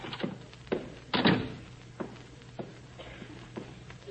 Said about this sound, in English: Ah, here's my bookkeeper's office. I'll just drop in and see him. Oh, I know. I'll open the door fast and surprise him.